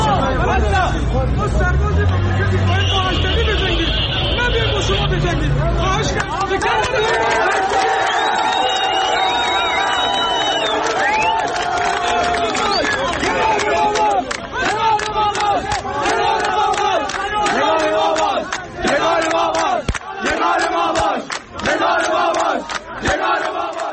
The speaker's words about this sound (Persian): در ویدیوی دیگر یکی از نیروهای یگان ویژه خطاب به مردم میگوید ما سرباز این مملکتیم، باید با اجنبی بجنگیم، نه اینکه بیاییم با شما بجنگیم، که با تشویق مردم روبرو میشود.